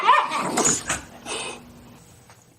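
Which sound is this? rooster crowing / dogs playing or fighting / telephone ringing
dogs playing or fighting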